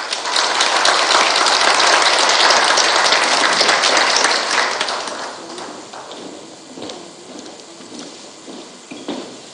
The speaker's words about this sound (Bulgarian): Аплодисменти за тях.